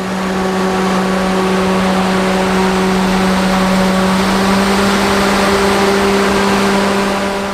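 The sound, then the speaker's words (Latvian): Powerful electric motors of a vertical wind tunnel drone steadily as they drive airflow of over 200 km/h that lifts a person upward: a loud constant hum layered over a broad rush of moving air, unchanging from start to finish with no voices. “Tāda ir motoru radītā skaņa, ka tie veido gaisa plūsmu, ar ko cilvēks tiek pacelts augšup.”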